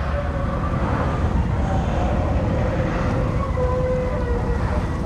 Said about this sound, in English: Somewhere below, a hose is sucking at the bottom. The machinery screeches and groans with its load. Huge steel jaws on a circulating belt are choking full of a dark pus brought forth to the surface and spat out into a barge.